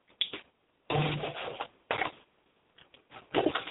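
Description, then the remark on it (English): Kitchen handling noises: a fridge opened, a water container taken out of the fridge clunked and rattled in several short bursts, with a brief stretch of water being poured into a chocolate chip batter. No one speaks. “Got to add some water. Get the water out of the fridge.”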